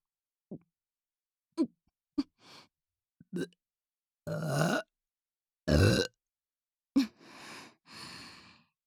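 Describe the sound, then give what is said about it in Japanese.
A series of close burps, several short and clipped followed by a couple of longer, drawn-out belches, with breathy exhales and sighs in between and no talking. “どうしてもゲップが出てしまいます。”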